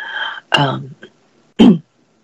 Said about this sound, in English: Sorry, if I go silent for a moment, it's mainly just because I'm probably clearing my throat or coughing.